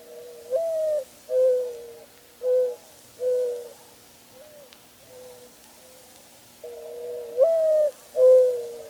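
A mourning dove in Duluth gives soft, hollow cooing that repeats in a slow series of mellow, owl-like notes. The calls are clear, with short pauses between phrases and no other sounds.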